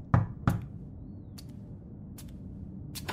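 household object, knocking

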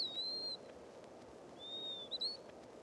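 bird, veery song

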